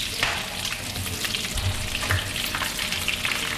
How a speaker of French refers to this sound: Dans la cuisine attenante, une femme vient de rentrer de ses ménages de la journée et prépare le dîner. D'une main lasse, elle fait sauter les morceaux de poulet dans l'huile bouillante.